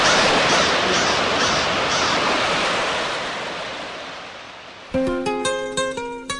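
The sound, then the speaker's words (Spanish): Ocean surf rushes in a broad, steady wash with gentle swells, slowly receding over several seconds, in a jingle for Explosión Juvenil radio on 99.5 and 99.9 FM, before a bright plucked melody abruptly takes over near the end. “Explosión Juvenil en la 99.5 y 99.9 de la FM, el sonido azul del mar.”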